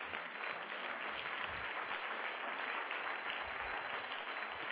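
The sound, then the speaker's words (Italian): Sustained applause from a large audience applauding the Lord, a dense, steady wash of many hands clapping at once with no individual claps standing out, continuing without pause. “Potete fare un applauso al Signore?”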